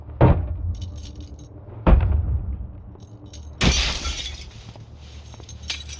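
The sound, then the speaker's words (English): Keys unlocking a door: three sharp metallic clunks spaced a couple of seconds apart, the last followed by a bright, sustained jangle of keys, with no talking. “One second, just unlocking the door.”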